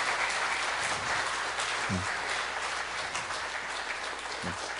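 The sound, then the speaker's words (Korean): Sustained applause from a church audience during a gift presentation to retiring elders and deacons, a dense steady patter of many hands clapping at even loudness throughout, with a few brief low voice murmurs underneath. “큰 박수로, 예, 감사합니다.”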